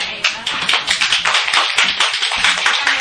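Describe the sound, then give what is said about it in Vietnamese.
An audience applauds steadily for about three seconds, many hands clapping in a dense, even patter with sharp bright claps, no voices heard over it. “Hay thì vỗ tay 8 tháng chứ đừng có làm theo.”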